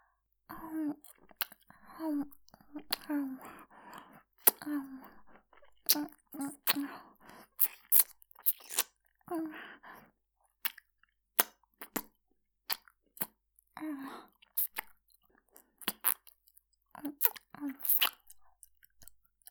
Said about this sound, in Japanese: もちろん耳たぶもハムハムしてあげるね。